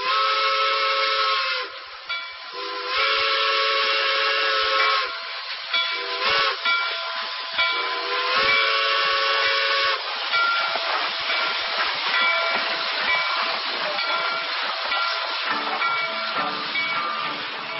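A steam train whistle sounds in long, loud, layered blasts, with hissing steam rushing steadily underneath and swelling toward the end; no one speaks.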